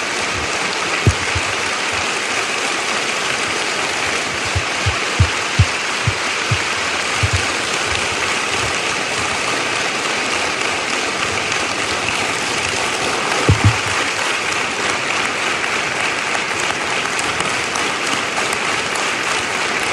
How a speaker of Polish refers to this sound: Oddajmy Bogu chwałę oklaskami. Chwała Ci, Panie.